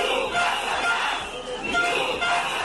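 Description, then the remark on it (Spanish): A crowd of protesting teachers in the Plaza de España in Oviedo, Asturias, shouts and chants together in a loud, continuous roar, many voices overlapping with rising and falling bursts of yelling. “La Plaza de España de Oviedo va a escuchar hoy de nuevo estos gritos.”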